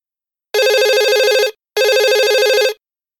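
Two long electronic telephone rings from a mobile phone calling a mother from the desert, each lasting about a second with a short pause between, loud with a rapidly warbling tone and no voices.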